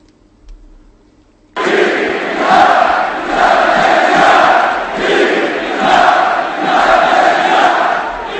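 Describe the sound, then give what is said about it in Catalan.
After a moment of near silence, a massive crowd at FC Barcelona's stadium during the clásico against Real Madrid erupts into loud, sustained chanting for independence in the 17th minute, the moment of the highest decibel level recorded, rising and falling in steady rhythmic swells roughly every second and a half. “Minut 17 de partit, el moment en què es va enregistrar el màxim decibel amb crits d'independència.”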